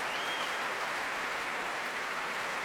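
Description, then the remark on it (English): Sustained applause from a large concert audience at a London Symphony Orchestra concert as Ian Bostridge, back on stage, applauds the orchestra's strings; a dense, even wash of clapping that holds steady at a moderate level throughout, with no voices standing out. “Ian Bostridge back on stage applauding the strings of the London Symphony Orchestra.”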